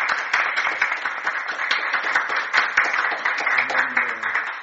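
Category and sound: crowd, audience applauding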